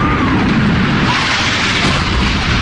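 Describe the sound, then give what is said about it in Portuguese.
The second hijacked plane slams into the South Tower of the World Trade Center in Manhattan at 9:03, and the explosion comes through as a loud, dense, unbroken roar of rumbling noise that holds steady without letting up. “Poucos minutos depois, às 9h03, até parecia que a televisão estava exibindo um replay do impacto, mas era o segundo avião sequestrado que atingia a Torre Sul do World Trade Center.”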